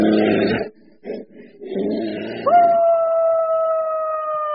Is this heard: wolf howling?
yes